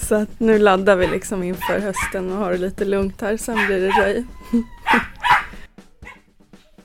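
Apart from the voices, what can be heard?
dogs barking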